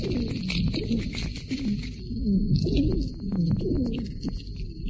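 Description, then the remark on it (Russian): Wheezing breath during an asthma attack: continuous noisy breathing with low, musical moaning tones and a thin high whistle running over it, rising and falling with each breath, without talk. “Дыхание становится еще более шумным и свистящим.”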